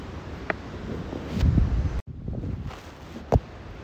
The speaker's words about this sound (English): Well, you may be able to perceive that it is bally windy in SW17 this afternoon. Can't believe the wind that has kicked up around the park. This is the windiest day I can remember.